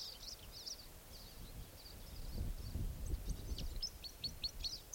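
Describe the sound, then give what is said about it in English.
A crossbill sings from a very tall fir tree by the roadside, a series of short, high, sharp chirps and clipped notes, repeated in quick bursts, over a low rumbling background with faint rustling. “Definitely Crossbill's song coming from the roadside.”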